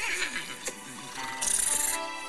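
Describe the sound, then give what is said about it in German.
A voice actor imitates a horse's whinny: a single high, strained call lasting about two seconds that breaks into a rapid, quavering flutter toward the end. “Was ist das, ein Pferd oder? Und weibliche Tiere.”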